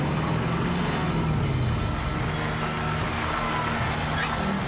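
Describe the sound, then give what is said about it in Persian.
A heavy truck engine rumbles steadily, its low drone filling the scene, with faint intermittent beeping like a reversing alarm mixed in; the truck is called Black Betty. “واقعا کامیون زیباییه.”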